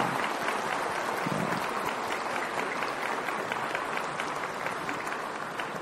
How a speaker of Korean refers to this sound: 네, 정말 정말 감사합니다. 하나님께 영광의 박수 올리겠습니다. 할렐루야.